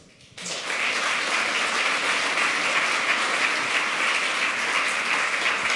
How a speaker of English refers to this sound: So let's have a nice talk and welcome them with a warm applause.